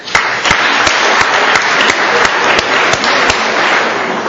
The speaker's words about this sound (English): I thought hearing applause early would make me less nervous, too.